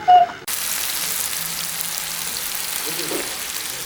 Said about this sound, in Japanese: ジュージュージュージューとステーキ皿の上でお野菜とお肉がもうまさに美味しそうな音を立てていますけれども、僕がお願いしたのが鉄板焼きの元祖空爆焼き。空爆ってなんだろうと思いながら、キャベツとね、こうお肉が入ってるだけなんですけど、なんかすごい美味しそうな匂いがしてきますよ。